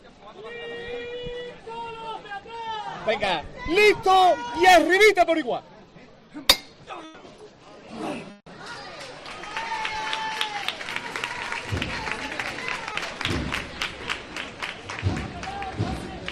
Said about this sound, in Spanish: Vamos con la levantada. Ahí está el martillo del capataz.